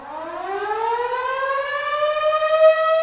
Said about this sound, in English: Each weekday morning in St. John, Kansas, the early birds are awakened by the rousing sounds of the town whistle. It's the same sound as the severe weather sirens, only the whistle is never as loud or as long.